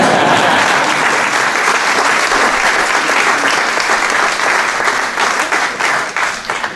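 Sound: audience applause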